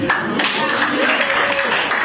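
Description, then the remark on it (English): A crowd claps steadily for about two seconds, a dense, loud wash of many hands with a faint murmur of voices mixed in. “And they clap.”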